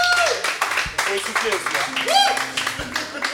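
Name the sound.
audience applauding contestants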